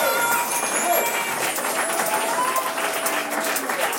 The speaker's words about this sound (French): On s'arrête là. On vous applaudit.